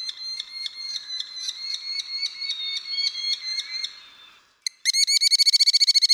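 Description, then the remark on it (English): A merlin, a small falcon, calls in a steady series of sharp, ringing notes, then pauses briefly before bursting into a faster, louder chattering run of repeated cries, clear with no talking. “That's the sound of a merlin, a small falcon that's similar in size to the American kestrel, but more closely resembles the larger peregrine falcon.”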